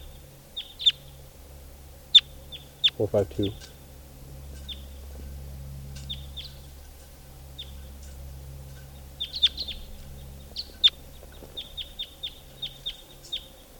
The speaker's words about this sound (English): And I see two, at least two birds coming in, flying over. Now they're perched up in the trees. I'm pointing at the wild birds.